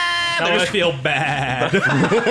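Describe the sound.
A person's voice mimics a sheep, letting out a loud, wavering baa that stretches across a couple of seconds, with a nasal, quivering tone.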